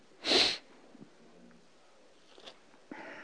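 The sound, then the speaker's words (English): A single sharp, loud sneeze bursts out near the start, followed by quiet background noise and a few faint rustles and breaths. “Bless you, Master.”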